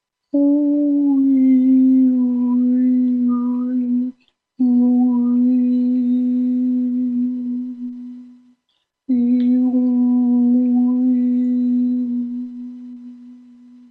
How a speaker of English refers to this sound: And listen for a frequency humming consistently in your throat chakra. Make it out loud.